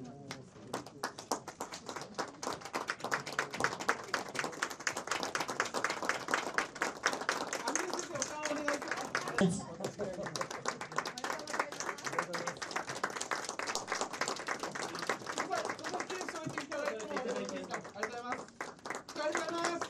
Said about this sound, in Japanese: そのまま拍手でお願いします。 役員の先生方もご登壇いただいて、中央にお揃いください。拍手お願いします。